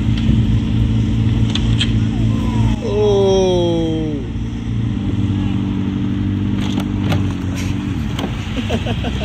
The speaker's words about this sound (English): This guy was trying his best to not scratch his car.